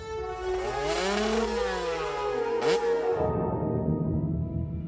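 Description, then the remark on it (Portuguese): A motorcycle ridden by a girl, Ashley Fiolek, revs up and down in loud, rising and falling sweeps, then settles into a rough, rumbling idle. No voices are heard. “Ela sentia cada vibração nas mãos, nas pernas e nos pés. Mas o rugido do motor...”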